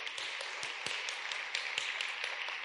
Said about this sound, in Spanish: Dar un aplauso al Rey.